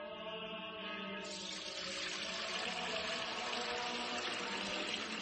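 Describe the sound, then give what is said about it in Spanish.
Fuente Umbría spring water pours steadily into a container, its tone rising gradually as the vessel fills, a continuous splashing stream with no voices. “Padre Gilberto, ¿qué hace? Hermano Pedro, es que no nos quedaba agua bendita. Agua pura de manantial”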